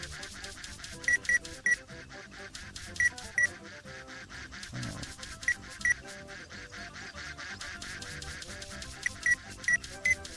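A game's warning alert signaling that the duck is getting too far from the player: short, bright, quack-like electronic chirps in quick bursts of two or three, repeating several times over a steady, busy background of game sounds.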